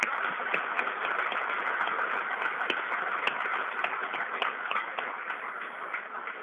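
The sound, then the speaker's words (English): A crowd in Bojayá applauds the country's citizens in the army, navy and police steadily for several seconds, a dense wash of many hands clapping with sharper individual claps popping out, holding an even loudness throughout with no talking. “I invite you to applaud them.”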